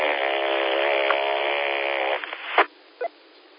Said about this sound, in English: That was pretty funny sounding. No, actually, I just started the car just now.